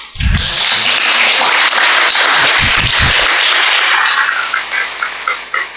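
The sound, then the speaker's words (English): A crowd claps steadily for about six seconds, a dense crackle of many hands at even loudness that thins slightly toward the end, with a few low thumps early on. “Give him a clap too.”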